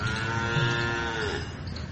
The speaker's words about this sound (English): Confirmed. It's nice to have cows here. They confirm everything I say.